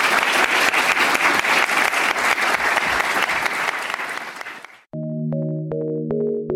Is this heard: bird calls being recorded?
no